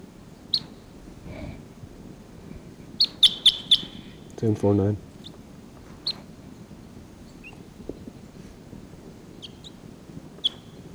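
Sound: wild birds calling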